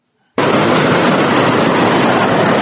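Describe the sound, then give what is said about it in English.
The white water of Fula Falls on the Nile roars as it falls and crashes on the rocks below, sending foamy splashes up as high as 5 feet: a steady, dense, hissing wash of noise that cuts in abruptly after a brief silence and holds at an even, loud level with no voices. “From a distance, one could hear the roar of white water at Fula Falls, falling down the base of the Nile and crashing on the rocks below, sending foamy splashes of water up as high as 5 feet.”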